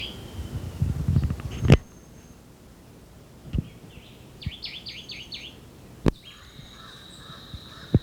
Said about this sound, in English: Jabbering crow in the background.